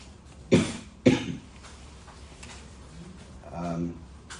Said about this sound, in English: I apologize, I have a slight cough and congestion, but I did take a COVID test this morning to be safe, and it was negative.